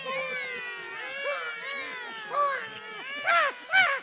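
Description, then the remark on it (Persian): Several newborn babies cry and wail at once in a maternity hospital newborn ward, their thin, overlapping cries layered together, with louder bursts of crying near the end. “چه جالب، تا ما اومدیم تفلکی ها یه ها آروم شدن.”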